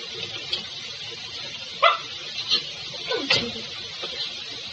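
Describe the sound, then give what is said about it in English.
A dog barks three or four times in short, separate yelps over a steady background hiss, sounding a little muffled, with no one speaking. “Let the dog in.”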